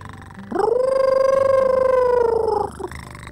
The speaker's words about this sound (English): I call it a wolf cat. It's part wolf, part cat. And listen to it. It purrs, and then it howls like a wolf, but it sounds different. See?